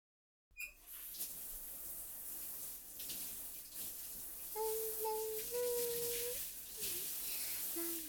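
Water sprays in a steady, broad hiss from a shower as someone takes a quick shower, lasting several seconds, starting abruptly after a short silence, with a few faint tonal squeaks riding on the rush.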